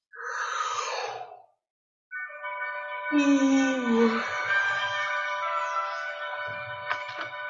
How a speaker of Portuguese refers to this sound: E fazendo uma respiração profunda, a gente vai voltando.